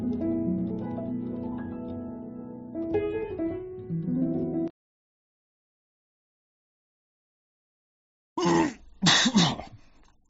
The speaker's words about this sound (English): Had a serious cough there, trying to hold back a cough. Hold on. Man. Sorry, excuse me.